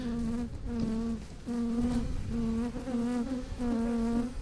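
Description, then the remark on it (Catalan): Honeybees buzz around a hive in a steady, mid-pitched drone that swells and dips in repeated waves, with a slight wavering in pitch as they fly past. No one speaks. “Té les ales més potents per poder volar darrere la reina.”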